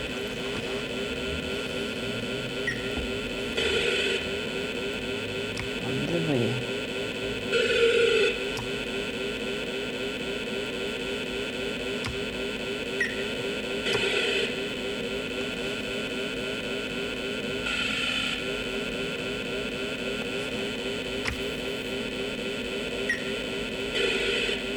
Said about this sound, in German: Schönes Geräusch, wenn man durch das Wasser durchfährt.